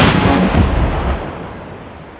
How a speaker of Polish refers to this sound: Z hukiem przyjął kulkę jak ulgę.